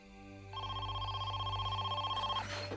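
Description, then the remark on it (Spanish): A telephone rings with a single rapid, trilling burst lasting about two seconds, clear over a steady low background hum, then cuts off. “Estaba a punto de llamar a la policía cuando sonó su teléfono.”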